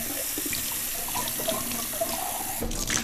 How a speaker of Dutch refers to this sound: Ik heb hier thee uitgedronken uit dit glas. En die spoel ik gewoon even om en dan is het goed.